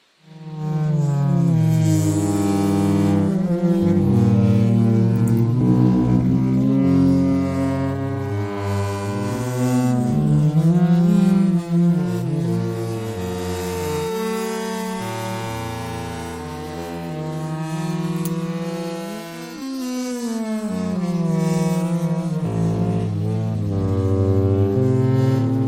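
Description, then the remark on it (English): A lightning crack slowed down electronically into a loud, continuous low drone, its layered tones bending and sliding in pitch like a foghorn for about 25 seconds, with no talking. “This is not the thunder, this is the actual crack of lightning.”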